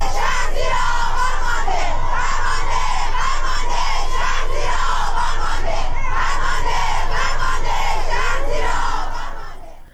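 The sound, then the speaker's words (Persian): A large crowd of protesters in Iran, demonstrating in solidarity with victims of the Metropol tower collapse, shouts and chants slogans together in a loud, dense roar, voices rising and falling in rough rhythmic surges that continue steadily before fading out at the end. “کاربران شبکه‌های اجتماعی در ایران در ساعت اخیر به رغم دشواری‌های فراوان در اینترنت، ویدیوهایی را از اعتراض‌ها و شعارهای سر داده شده از سوی مردم انتشار دادند.”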